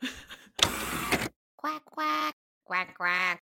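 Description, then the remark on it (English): Someone imitates a duck with two loud, nasal quacks spoken close up, after a short burst of hissy noise and a moment of silence. “Quack, quack.”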